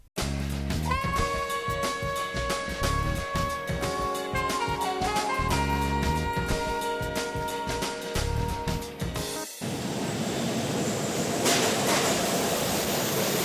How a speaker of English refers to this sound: we are now at the subway station.